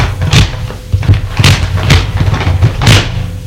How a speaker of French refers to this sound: La porte de la salle de bain s'est ouverte.